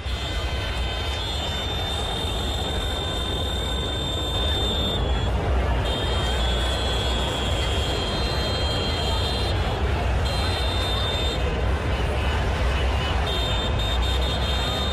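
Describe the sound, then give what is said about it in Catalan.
A steady din of street noise recorded by a neighbour from inside his home: thousands of people strolling and murmuring amid heavy traffic, layered with many car horns honking continuously, their high tones overlapping and sustained throughout. “Dius, ostres, que són tants de clàxons, què passa?”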